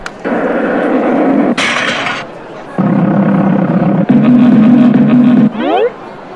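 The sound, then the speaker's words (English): A loud, roaring F-15 fighter-jet sound effect in several sustained bursts, played as a softball crosses the screen to knock over cans in a cause and effect amusement park software program; a hissing surge partway through, a sweeping whoosh near the end, and a sharp knock cuts in briefly. “So here we had a softball knocking over a bunch of cans, The softball, as it's going across the screen, is actually has the sound effects of an F-15 fighter jet in order to keep the child's attention.”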